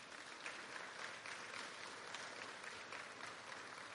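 Steady applause from a sizable audience, a dense, continuous patter of many hands clapping at even loudness for several seconds with no voices standing out.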